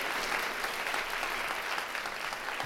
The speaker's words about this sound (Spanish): detrás de los controles, allá muy, muy discretamente, pero siempre llevándose la ovación.